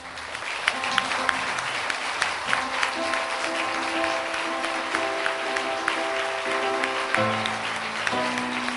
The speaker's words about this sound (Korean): 이제 신랑 신부가 행진하겠습니다. 우리 교우님들께서는 다 일어서셔서 박수로 이들의 인생 장도를 축복해 주시기 바랍니다.